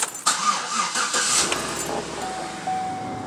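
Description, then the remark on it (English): A car engine cranks with a few quick pulses, catches, and settles into a steady idle at 5:20 a.m. before sunrise in Brownsville, as a port worker gets in for his wife to drive him to work. No one speaks. “About to get in the car. Gonna have my wife take me.”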